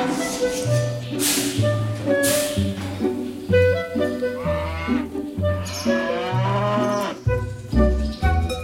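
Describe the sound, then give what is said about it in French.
Dairy cows low repeatedly in a milking parlour as milking begins, deep drawn-out moos overlapping one after another, while swallows twitter in high chirps in the background. “Tu vois, les vaches ruminent en salle de traite, c'est tranquillou, quoi.”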